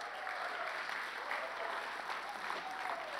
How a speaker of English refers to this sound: Let's give these guys a great clap as they come up.